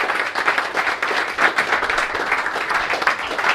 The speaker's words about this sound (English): And we want to thank the two of these for organizing today. I think they've done a great job. I think we can give them a round of applause.